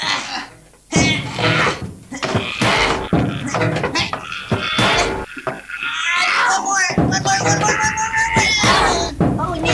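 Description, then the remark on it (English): Repeated loud bangs and thuds of a stuck door being pushed and knocked, coming in irregular bursts, with people talking and exclaiming over the noise. “Oh, this door is really”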